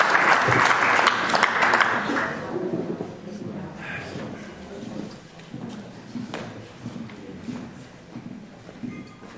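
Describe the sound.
An audience claps in a loud, dense burst that fades over the first few seconds, leaving scattered claps and a low murmur of voices with occasional knocks.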